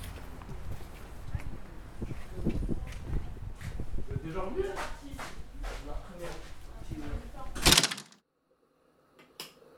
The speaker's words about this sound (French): Porte ouverte.